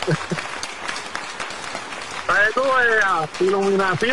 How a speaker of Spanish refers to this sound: Oye, un aplauso, eso se llama, era.